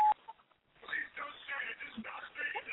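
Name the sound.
voicemail recording tone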